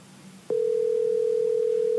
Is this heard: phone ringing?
yes